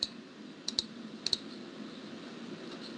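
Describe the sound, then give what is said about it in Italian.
Two quick pairs of sharp Mac mouse clicks, crisp, like double-clicks, while copying a file, over a low steady hum with no talking. “Mac mouse.”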